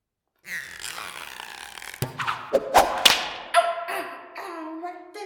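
A steady whirring gives way to a few sharp slaps of rubber bands in quick succession, followed by wavering, whistling tones that rise and fall toward the end.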